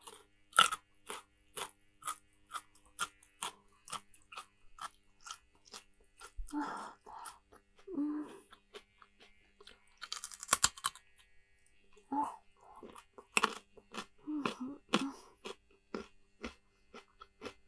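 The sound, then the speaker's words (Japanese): Crunchy chewing of food, a steady run of sharp, crisp bites and crackles repeating throughout, with a few soft murmured vocal sounds mixed in between the chews. “最後の一口いただきます。”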